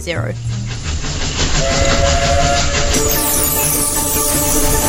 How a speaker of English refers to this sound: Operating on selected days in December, you will get to ride through the winter countryside on a 10-mile steam train round trip